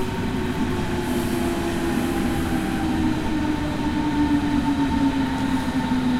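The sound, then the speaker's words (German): An S-Bahn commuter train rolls past in a steady, loud rumble with a sustained tonal hum and faint high wheel squeal running throughout, no voices present. “Oh, da kommt eine S-Bahn.”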